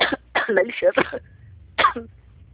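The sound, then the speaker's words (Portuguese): A few harsh, throaty coughs in quick bursts, followed by a pause and one more rough cough, with a low background hum. “Horrível essa tosse.”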